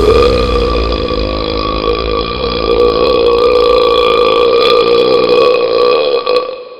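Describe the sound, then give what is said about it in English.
A long, loud, drawn-out belch rumbles continuously for several seconds, deep and resonant with a gurgling, throaty texture, alone before trailing off at the end. “It coughed and spluttered and clutched at its throat until eventually it let out a tremendous belch.”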